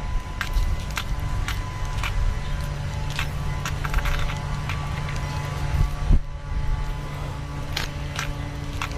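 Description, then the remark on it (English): A leaf blower run by a neighbor across the street drones steadily on a windy day, a constant engine hum blended with gusty wind rumble, while sharp clicks and rattles pop up now and then. “And somebody's using a leaf blower.”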